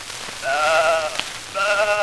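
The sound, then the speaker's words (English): A sheep bleats twice, each call a wavering, quavering baa lasting over half a second, separated by a short pause, against a faint hissing, patter-like background. “Here's one about the sheep. Now listen.”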